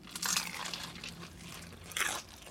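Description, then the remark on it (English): Loud crunching as someone bites into crispy fried chicken from a 10-piece bucket, with two distinct bursts of crackly crunch about two seconds apart and softer chewing noises between them. “Oh, that is crunchy. Very, very crunchy.”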